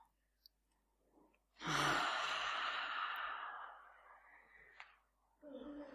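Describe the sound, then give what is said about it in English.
A single long, breathy yawn, loud at first and slowly trailing off over about three seconds, followed by a voice starting to speak. “And a yawn, yeah, sounds good.”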